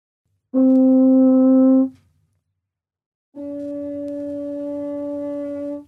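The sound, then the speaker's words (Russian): A brass horn holds two long, steady tones separated by a short pause, played without pressing the valves, the second slightly higher and thinner-sounding, as the hand moves in and out of the bell. No one speaks. “Так, мы играем тон с рукой и без руки, не нажимая клапаны.”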